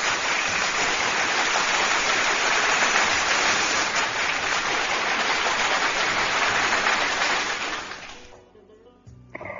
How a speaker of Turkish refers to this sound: Kocaman yürekli babam, kocaman alkış sana.